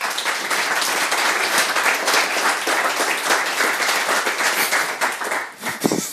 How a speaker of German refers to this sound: Einen großen Applaus bitte.